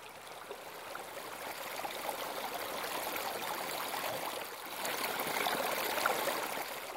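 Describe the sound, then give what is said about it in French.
A river flows steadily, its broad rushing and babbling texture continuous throughout, swelling slightly louder toward the end, with no voices present. “À l'école, nous avons construit une roue de moulin qui tourne avec l'eau de la rivière.”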